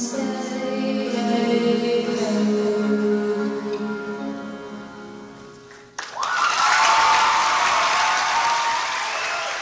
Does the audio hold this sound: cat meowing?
no